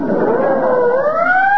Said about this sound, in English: Pardon me. There goes another ambulance.